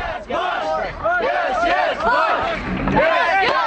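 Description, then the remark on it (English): A large crowd of Shiite Arabs cheers and shouts continuously at an impromptu street celebration in Saddam City, a suburb east of the Tigris River, around a Marine combat convoy; many voices overlap in loud, rising and falling yells, dense throughout. “The impromptu street celebration took place in Saddam City, a destitute suburb east of the Tigris River, populated by Shiite Arabs who were violently oppressed by Saddam Hussein.”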